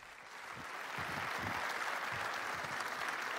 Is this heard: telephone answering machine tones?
no